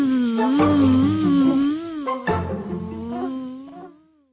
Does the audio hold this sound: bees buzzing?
yes